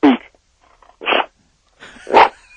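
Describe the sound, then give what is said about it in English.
A dog named Hawk, told to speak, lets out three short, sharp bark-like bursts spaced about a second apart, fairly loud, with quiet gaps between them. “Hey, Hawk, they want to hear you. Yeah, come on, speak. Come on. No, don't sneeze. Speak.”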